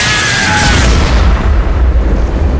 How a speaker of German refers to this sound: John, der Totengräber! Er ist regelrecht explodiert!